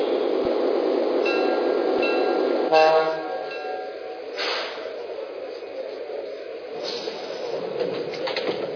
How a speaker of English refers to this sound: Now departing for Babylon, track 8, train number 82. Be careful on the steps. All aboard.